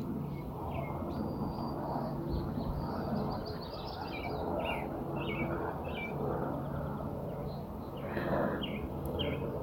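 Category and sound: vehicle, airplane passing overhead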